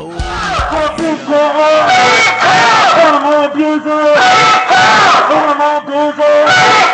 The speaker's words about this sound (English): What a crowd gathering at the surface. Guy in a gray shirt and shooting video. The noise is still pretty substantial even out here.